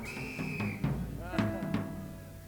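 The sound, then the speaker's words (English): A shrill Acme Thunderer whistle blast, blown in the audience, sounds near the start, then cuts off amid a noisy crowd, with a fainter wavering tone and scattered chatter following. “Is there more than one Acme Thunderer in the audience?”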